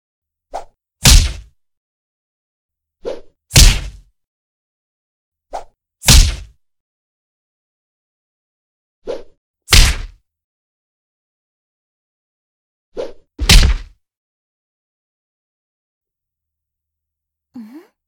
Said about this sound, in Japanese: ほらほら、私のカウンターが怖くなければ攻撃してきてください。勇者様が外すたびに顔面にパンチをしっかり叩き込んであげますからね。